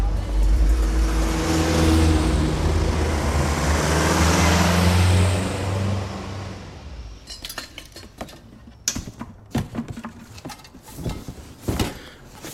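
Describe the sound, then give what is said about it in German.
A car-sharing car drives to Hattingen with a steady engine rumble and road noise for several seconds, then cuts away to scattered clinks and clatters like dishes being handled. “Komm, wir fahren. Wie sehen sagt, du hast kein Auto. Carsharing, komm.”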